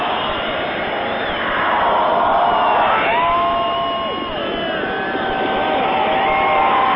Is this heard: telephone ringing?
no